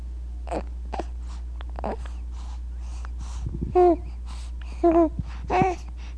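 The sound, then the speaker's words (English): A baby lying in a tub on a sideboard, waiting for a diaper change, makes a string of short guttural throat sounds and breathy vocal bursts, fairly loud, with a few gurgling, croaky noises near the end and soft breathing in between. “Guttural sounds.”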